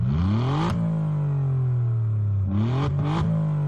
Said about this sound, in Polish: Drugi wątek, jakże mogłoby go zabraknąć quadrifoglio, to dźwięk, jaki wydaje wydech, zwłaszcza z poczwórnymi rurami opracowany we współpracy z firmą Akrapowicz.